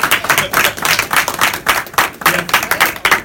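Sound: audience clapping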